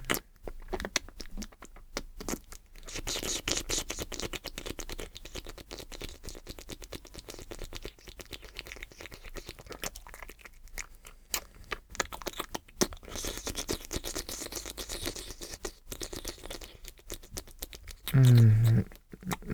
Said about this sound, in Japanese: 気持ちいい、よかった。トントントントントン。ずっとトントンし続けておこっか。トントントントントントンって。ずっとトントン。